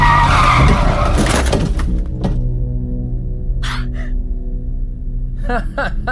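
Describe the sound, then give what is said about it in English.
A car brakes hard with a loud, broad screech of skidding tires that cuts off after a second or two, leaving a low engine rumble with a few short squeaks and thumps. “Heavy on the brakes there, fella.”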